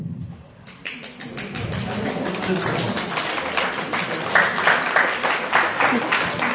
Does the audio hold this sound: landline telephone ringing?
no